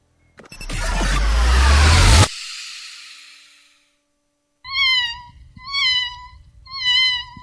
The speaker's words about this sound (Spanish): ¿Qué es? Creo que es un gato. Oye, aquí dan mucha lata los gatos todas las noches.